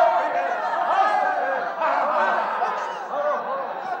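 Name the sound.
noisy crowd chattering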